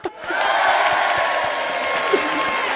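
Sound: audience applause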